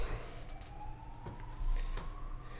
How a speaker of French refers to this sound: J'entends les sirènes de police qui arrivent.